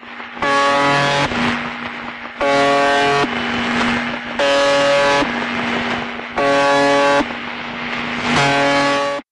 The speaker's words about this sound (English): this signal, which according to Cracked, sounds not unlike the sound of a truck horn played through a cheese grater